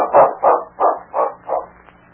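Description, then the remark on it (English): King, Sergeant Preston's big dog, barks five times in a quick, steady rhythm, each bark short and fairly loud, with no voices around it. “The desk clerk at the Northern Hotel smiled as Sergeant Preston and his big dog, King, approached him in the lobby.”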